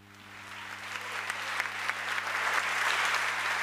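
Audience applause after a reading at the concert 'Vicente por sus amigos' at the Usina del Arte on 6 May 2017: a dense patter of many hands clapping that swells gradually louder over a few seconds, with a steady low hum running underneath.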